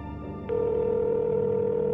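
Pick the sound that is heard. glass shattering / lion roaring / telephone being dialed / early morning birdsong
telephone being dialed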